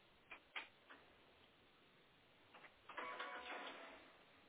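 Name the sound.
printer printing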